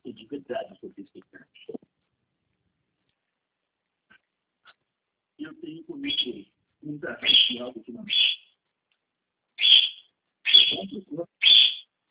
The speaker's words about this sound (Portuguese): Tem um passarinho aí, né? É calopsita?